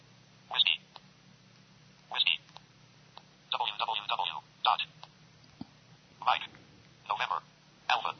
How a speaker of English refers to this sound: Okay, I'm using the mobile phone's keyboard to enter the characters of the website address, and this can take a bit of getting used to if you're not used to entering letters using your telephone keypad.